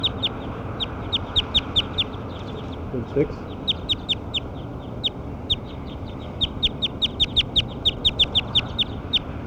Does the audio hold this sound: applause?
no